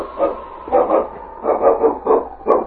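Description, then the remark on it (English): A dog barks repeatedly in short, fairly loud bursts, about six or seven barks in quick succession with brief pauses between them, with no talking. “My dog will have us on their trail in no time.”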